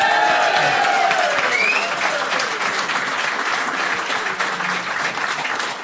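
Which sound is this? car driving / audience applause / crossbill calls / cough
audience applause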